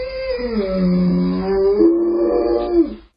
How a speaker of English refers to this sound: Jakey boy. Daddy misses you, Jakey. That ain't a happy dog.